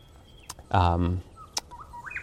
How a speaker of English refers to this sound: the birds are beautiful here.